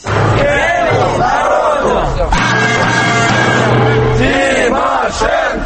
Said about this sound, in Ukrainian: Це гасло звучить під будинком Кабінету міністрів що 15 хвилин.